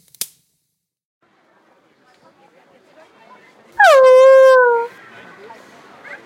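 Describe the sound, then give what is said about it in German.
A dog lets out one loud whimper after someone nearly steps on it, a sharp yelp that slides down into a sustained whine for about a second before cutting off, against a quiet background. “Sie wären ja fast auf meinen Hund getreten.”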